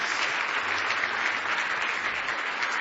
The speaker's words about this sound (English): Give the Lord a good hand clap for keeping you tonight. Praise the Lord.